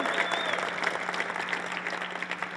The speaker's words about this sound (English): Hands up if you feel like you're a superhero in your class. Give yourself a bit of a cheer for that.